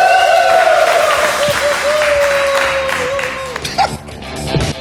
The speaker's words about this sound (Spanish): Hablando huevas, un fuerte aplauso.